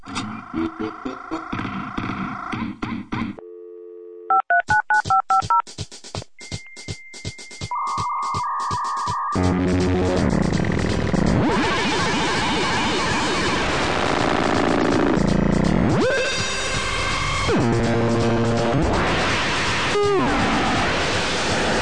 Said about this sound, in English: I start the computer and the modem to hear the show that I'll be downloading. I click the mouse on the station preset and wait a minute.